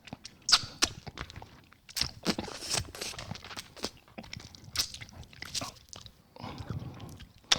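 Biting and crunching on a hard lollipop, a rapid series of sharp cracks and crunches with brief pauses, loud, with no one speaking.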